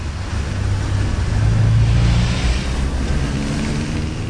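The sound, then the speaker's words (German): Steady, loud roar of evening city traffic in London with a deep engine rumble, swelling in the middle as a car passes by, then settling back into a continuous wash of road noise. “Die Guerillagärtner arbeiten im Scheinwerferlicht der vorbeifahrenden Autos. Es ist laut, längere Unterhaltungen sind anstrengend, mitten im Londoner Abendverkehr.”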